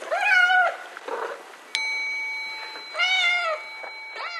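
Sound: cat meowing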